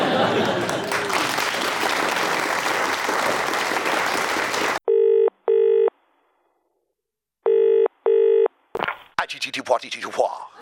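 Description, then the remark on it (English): Loud applause cuts off abruptly, then a telephone rings twice in the British double-ring pattern, clear, followed by the voicemail greeting of Boris Johnson's phone beginning to speak. “You have reached the phone of Boris Johnson.”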